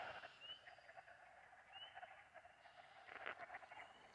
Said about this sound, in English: can you hear all the frogs? And those aren't even the spring peepers. Those are just the, I don't know, the woods frogs or whatever they are. Not woods frogs. Whatever your standard frog is.